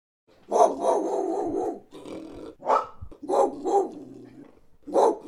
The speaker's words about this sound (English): What is this? It's a dog.